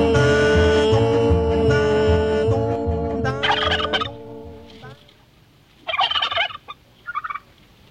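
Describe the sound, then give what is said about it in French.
A loud turkey gobbles in a long rattling burst, then after a short pause gives two more quick gobbling bursts, clear with no talking. “Il avait le dédain des dons, c'était un dindon. Dindon. Dindon.”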